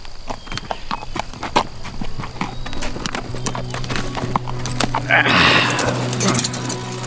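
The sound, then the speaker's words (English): Horse hooves clip-clop in a steady, uneven walking rhythm, fairly loud, with a low hum underneath and a rougher burst of noise near the end. “Fairfax tied his horse at the very end of the hitch rack”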